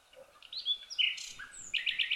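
bird, garden birds chirping

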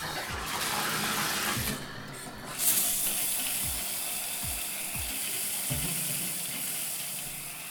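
household object, shower head spraying water

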